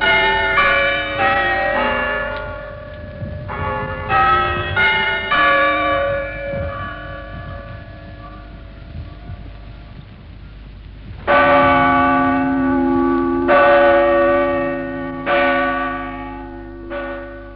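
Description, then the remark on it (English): Loud bells of a school clock tower at Achimota boarding school, heard from directly beneath, strike the hour: a run of quick overlapping chime notes much like Big Ben's, followed by a few slower, heavy strikes with long ringing decay, no voices. “I've just been standing underneath this school tower recording the clock striking an hour.”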